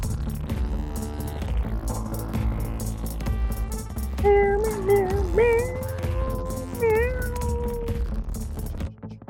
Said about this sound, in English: Do you hear a cat? I hear a cat.